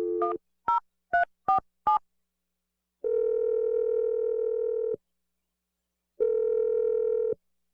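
Five quick touch-tone beeps of a phone number being dialed, followed by two long, steady ringing tones separated by a pause. Clear and close, with no voices.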